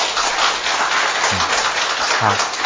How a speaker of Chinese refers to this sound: 我们为他这样的愿意侍奉和爱主和奉献我们再给他一个掌声。